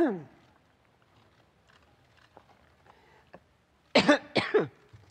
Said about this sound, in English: And that cough.